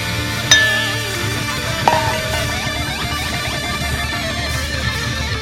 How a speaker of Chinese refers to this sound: 哎呀，俺好像碰杯使太大劲儿了，嘿嘿嘿，这杯子底儿都撞没了。